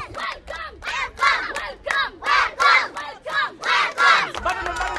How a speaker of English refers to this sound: The mood turned much brighter at a nearby art school where dozens of children sang welcome, welcome, and hip hip hooray upon her arrival.